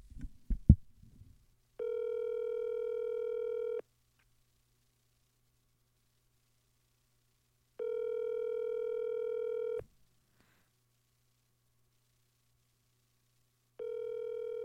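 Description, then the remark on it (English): An outgoing call's ringback tone: steady two-second buzzy tones repeating about every six seconds, with a faint low hum between them and a brief clatter at the start. No one speaks. “I don't know if he can take a call right now.”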